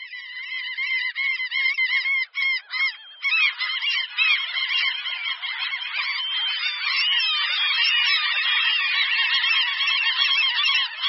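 A noisy chorus of common gulls (Larus canus): many high, nasal mewing calls overlap continuously and loudly, with a brief lull early on before the clamour thickens.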